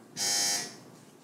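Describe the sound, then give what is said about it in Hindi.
A single loud electronic quiz-game buzzer, pressed by a competing team, blares for about half a second, a harsh steady tone, then cuts off, leaving a faint hum behind. “team भी आपकी buzzer बजने रही”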